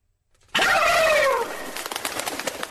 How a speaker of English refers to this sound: Yeah. It's the bats again. It's not bats, it's turkeys. Christmas turkeys.